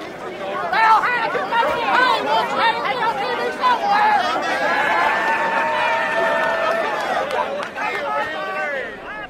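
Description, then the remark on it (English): A noisy company crowd shouts and jeers over each other continuously, a dense babble of raised, overlapping calls with no pauses, as James Hansen and Daryl Hannah are arrested at a mountaintop removal protest in West Virginia on June 23rd, 2009. “The company crowd hooted and hollered at James Hansen and Daryl Hannah as they were arrested.”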